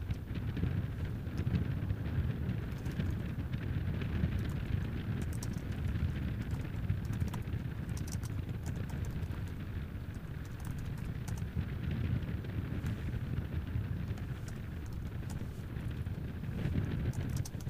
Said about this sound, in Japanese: 大槌の、ライブ配信を少しバック入れてますが、なんか風が強いようです。今聞こえてるのはライブで、岩手県大槌にあります、東京大学の海洋センターの屋上にありますマイクの音をライブで配信しています。